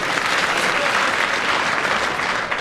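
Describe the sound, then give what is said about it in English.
An audience claps in agreement with a player's challenge during a timed game, a dense wash of overlapping hand claps that stays loud and even throughout with no pauses or talking. “The audience applause tells me without any doubt they agree with Derek's challenge, and he has 4 seconds.”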